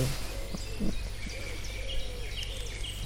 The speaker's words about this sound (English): Now it's good. There he is. But this is black woodpecker, the sound.